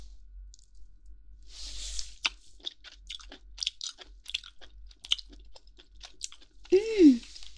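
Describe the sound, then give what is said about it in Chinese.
Crisp crunching as crispy jowl meat is bitten and chewed, a quick series of sharp cracks and mouth sounds, ending with a brief murmured vocal sound. “下巴肉应该也很脆吧？快让我尝一下，忍不住了。”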